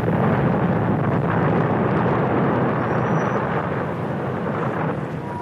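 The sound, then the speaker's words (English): A bomb accidentally explodes after a short circuit in its wiring, in a townhouse on West 11th Street, Greenwich Village, New York, March 1970: a loud, deep, roaring rumble fills the whole stretch, a dense continuous blast of low noise that slowly fades slightly toward the end, with no voices present. “On March 6, 1970, as the Weatherman Group on West 11th Street put the final touches on the bomb, there was a short circuit in the wiring, and the device accidentally exploded.”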